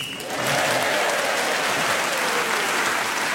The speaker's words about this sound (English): That whistle tells us the 60 seconds are up, and whoever is speaking at that moment gains an extra point.